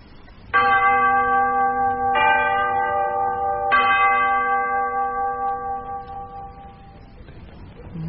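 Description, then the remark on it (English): A bell rings out three times in a slow ding-dong pattern, each strike loud with long, shimmering overtones that fade away gradually afterward. “The audience will kindly keep ding still. Dong bell.”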